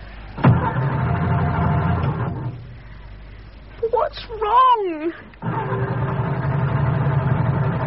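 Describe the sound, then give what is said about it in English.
A sabotaged car engine churns roughly for about two seconds, then cuts out. After a brief spoken question in the silence, it grinds into another rough, struggling attempt that never settles. “He sabotaged the damn car.”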